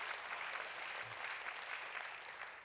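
A church audience at Roots Community claps steadily, a dense wash of many hands at an even level with no distinct rhythm, fading slightly at the end.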